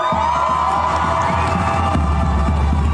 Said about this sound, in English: The Islamic Republic sends drones towards Israel, and these people who are protesting cheered.